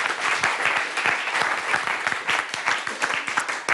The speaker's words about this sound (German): Also da finde ich, können Sie mal auch einen Applaus geben von den Damen und Herren, die zuschauen.